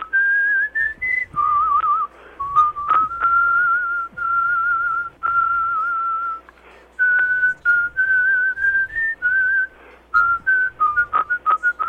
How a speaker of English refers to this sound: It's sort of like a theme song. Well, listen, nobody whistles it better than you, and I don't enjoy doing it with anybody but you.